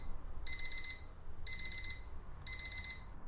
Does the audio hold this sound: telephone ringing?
no